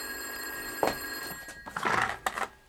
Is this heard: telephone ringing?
yes